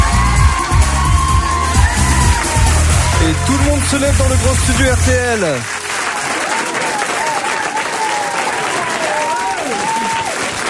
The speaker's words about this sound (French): Finalement, il a décidé que vous n'applaudissiez pas assez fort, et il a décidé qu'il viendrait pas. Applaudissez-le plus fort que ça. Encore plus fort.